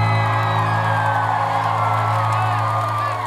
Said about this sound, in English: guys have been amazing tonight. Give yourselves a round of applause real quick.